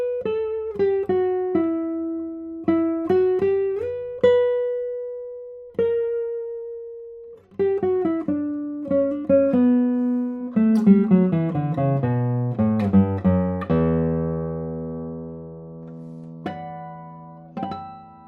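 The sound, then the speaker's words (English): Guitar notes plucked one at a time, a single held tone ringing steadily, then fuller chords whose notes sustain and slowly fade over several seconds, with no voices. “Notice straight away how long the tones on this guitar are.”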